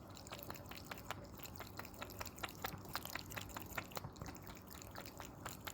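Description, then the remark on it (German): Water in a pet fountain in a kitchen being slapped and splashed by a cat's paw, a rapid run of small splashes and drips over a steady trickling flow, with no talking. “Kannst du mal kurz aufnehmen, wie der Mogli Wasser schlägt?”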